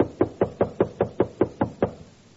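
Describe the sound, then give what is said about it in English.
A quick run of nine sharp, evenly spaced knocks on a hard surface, fairly loud with no voices, then the tapping stops and all goes quiet. “And as they start to sing, there's a knock in that back row.”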